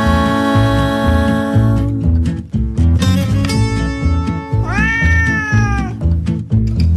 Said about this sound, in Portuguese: Oh, gato pelado, que ta mente infame, pensa no biscoito, quere a metade. Marra, miau, marra, miau, marra, miau, miau, miau, miau, marra, miau, marra, miau, marra, miau, miau, miau, miau.